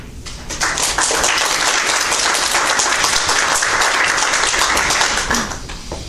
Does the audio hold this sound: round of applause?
yes